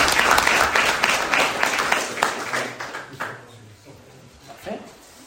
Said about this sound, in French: Un applaudissement pour vous.